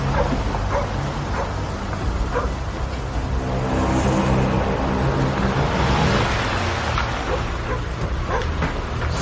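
A car drives slowly around a courtyard, its engine a steady, low rumble mixed with crunching tire noise for the whole stretch. No one speaks.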